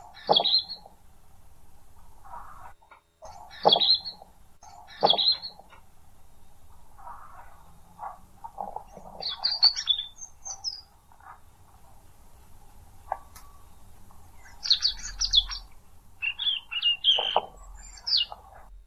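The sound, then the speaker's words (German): A European robin sings alone, delivering short, high, trilling phrases separated by brief pauses. The song is clear over a faint low background hum. “Ich würde zum Abschluss nochmal das Rotkehlchen anmachen.”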